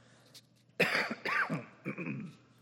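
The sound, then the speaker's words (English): Two or three rough, throaty coughs into the microphone, with a bit of throat clearing, breaking a quiet pause with no talking. “A little bit of a cough, so I apologize ahead of time, and I will do my best to cover the mic so I don't just blow you out.”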